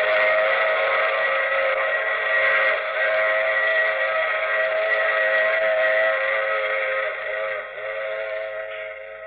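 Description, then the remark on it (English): A train's whistle sounds in one long, unbroken blast, loud, its layered chord tones holding steady and easing off slightly toward the end, with no voices. “I take this same train every week.”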